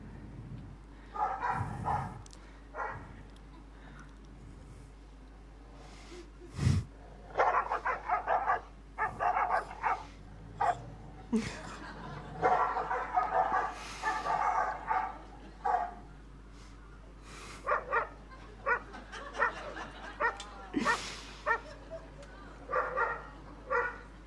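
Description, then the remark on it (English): Several dogs bark and yap repeatedly in overlapping bursts, with occasional whimpers, played back from a video through a speaker, with faint background noise throughout. “We become a little bit like these dogs here. Can we play this video?”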